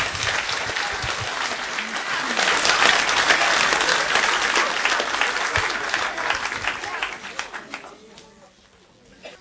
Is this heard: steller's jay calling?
no